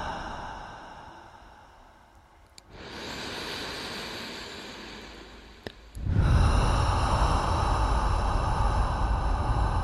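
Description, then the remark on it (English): A person gradually lets their breathing become audible, with no talking: a soft airy inhale drawn over a few seconds, followed by a louder, heavier rushing breath that fills the rest of the moment. “Gradually allow your breathing to become audible.”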